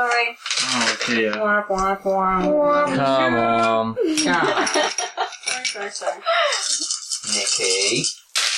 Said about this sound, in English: Yeah. I rolled the wrong fucking dice. Reroll them.